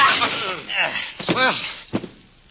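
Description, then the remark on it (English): A scuffle with strained, shouting voices, broken by a couple of sharp wooden thwacks as a man is struck with a chair, the second blow short and abrupt. “You were very handy with that chair.”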